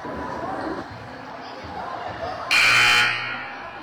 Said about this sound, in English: Okay, that buzzer should be calling those girls back in.